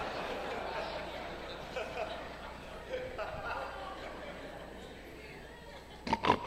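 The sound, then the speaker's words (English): A few short, snorting pig oinks burst out near the end, rising above a steady, muffled background of indistinct noise and faint murmuring. “What's that? Them pigs and pigs too, man.”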